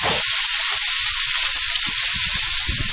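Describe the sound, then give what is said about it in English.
Already-cooked artichokes sizzle loudly in a frying pan with potatoes and onions, a steady bright hiss broken by scattered pops and soft low thuds, with no voices. “So the artichokes are going into the potato and onion pan?”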